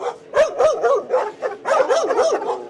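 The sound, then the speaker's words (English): Several drug-sniffing dogs of a private security company in a Mexican border city bark in quick, overlapping, loud bursts, with some higher yips and whiny notes mixed in, continuing steadily with no voices. “These are his drug-sniffing dogs.”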